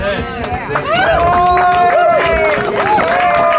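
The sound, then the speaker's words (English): A large crowd cheers and claps at a rally, loud and sustained, with high whoops and shouted voices rising over a dense wash of applause for the whole stretch. “So, judging by the crowd here today, I think they may have miscalculated.”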